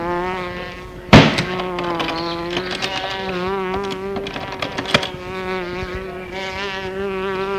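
A fly buzzes steadily in an apartment kitchen while someone hunts it, its droning hum wavering up and down in pitch as it circles, with a sharp knock early on; no one speaks.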